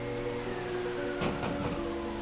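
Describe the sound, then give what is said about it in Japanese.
Steady rain with rushing wind beating on a door, a continuous wash of noise with a couple of stronger gusts or thumps partway through, moderately loud, with no voices. “戸をたたく風の音と雨の音とはいつまでも衰えませんでした。”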